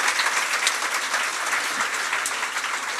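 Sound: audience applause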